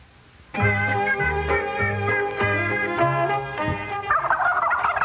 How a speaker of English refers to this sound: All right, I didn't know Bill would send a live turkey. He said he raises turkeys.